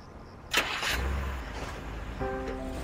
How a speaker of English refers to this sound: Pierre and Daphne watch as the car ambles away.